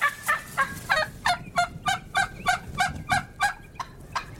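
wild turkey gobbling

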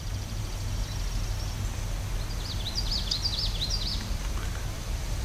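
common yellowthroat warbler song

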